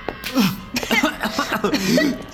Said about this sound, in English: Dizzy, Bob stumbled into the hallway outside, coughing the last of the putrid burning odor out of his lungs